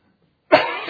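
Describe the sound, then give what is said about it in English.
A single abrupt cough bursts out after a moment of silence, rough and breathy, trailing into a brief throat-clearing rasp. “All right, if I had a cough drop.”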